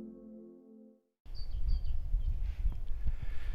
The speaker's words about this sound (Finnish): Lintujen laulua ja suksien suihkintaa. Sitä täällä Kihtersuon uimarannan läheisyydessä kuulee. Tästähän menee latua poikineen.